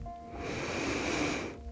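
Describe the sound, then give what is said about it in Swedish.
A single slow, deep inhale drawn in through the nose during a breathing exercise, a soft airy rush lasting over a second, quiet, with no talking. “Vi börjar med tre djupa andetag. Andas in.”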